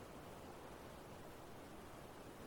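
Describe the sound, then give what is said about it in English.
A steady, dense roar of the rushing Ghazal Ozan river in Iran, continuous and unbroken for the whole stretch, with no voices over it. “The river. Listen, it's roaring.”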